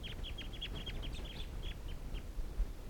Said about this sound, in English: And it looks like they're gonna take off. Wild flock, and the decoys are also calling. That toot there was from 305.